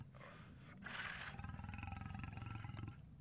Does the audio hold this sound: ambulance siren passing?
no